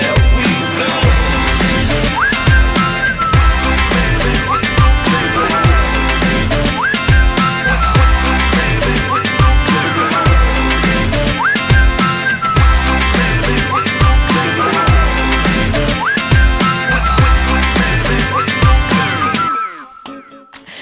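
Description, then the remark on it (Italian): A whistled melody with rising, gliding notes rides over a loud, busy music track with steady drums, continuing throughout before everything cuts off abruptly at the end. “fischiettando, così abbiamo cominciato Più Siamo nella puntata di oggi”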